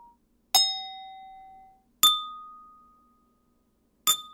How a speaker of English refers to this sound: If you hit another glass, it might go pong. You know, like you just got to hit the sound, whatever sound that glass makes, you got to play it back at it.